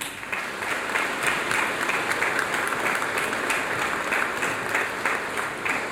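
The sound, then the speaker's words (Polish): A church audience bursts into sustained applause for a parishioner who did major restoration work on the church's altars, a dense, steady wash of many hands clapping at an even loudness for the whole stretch, with no voices rising above it. “wykonał największą pracę w kościele, powiem, brawa mu ogromne się należą.”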